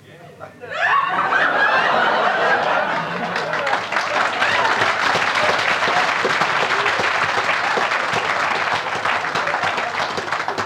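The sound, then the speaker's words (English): A crowd bursts into sustained applause, dense rapid clapping rising quickly and holding steady and loud, with scattered laughter mixed in throughout. “It's easy to clap, isn't it?”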